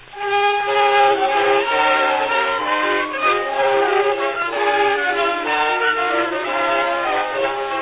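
A steam train sets off from a depot, its whistle sounding in long, wailing, chord-like tones that hold steady throughout, loud on a muffled, old-sounding recording with no talking.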